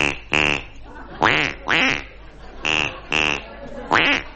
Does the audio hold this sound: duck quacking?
yes